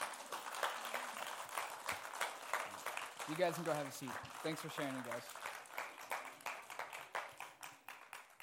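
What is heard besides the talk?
audience applause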